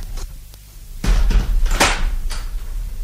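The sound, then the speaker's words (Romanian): A door is pushed shut with a heavy thud, followed by a couple of sharper knocks and rattles from the latch and frame, over a low background rumble. “Închide ușa”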